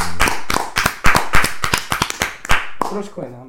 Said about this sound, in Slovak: A dáme ešte raz ten potlesak poradne? Áno, dáme ešte raz. Lebo ty si netliskal. No, takže dáme páni náš legendárny, jedenkrát, teraz je to druhýkrát, potlesk na konci podcastu, ďakujem, ktorý patrí nie nám, ale vám všetkým.